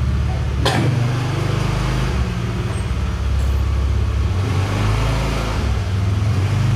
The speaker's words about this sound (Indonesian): Kalau ada motor.